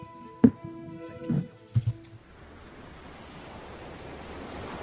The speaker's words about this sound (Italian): Ma guarda quelle onde, Johnny. Guardale!